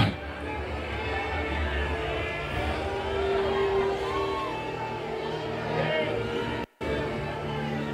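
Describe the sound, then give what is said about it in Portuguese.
A large audience shouts and cheers together in a loud, continuous roar of overlapping voices, with whoops rising above the din and a brief dropout near the end. “E Deus olhou e disse: agora grita.”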